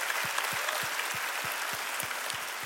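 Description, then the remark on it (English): An audience at Rock Church applauds in a steady, dense wash of clapping that holds for the whole stretch, with a regular low thumping beat pulsing underneath about three times a second. “Come on, let's clap it up.”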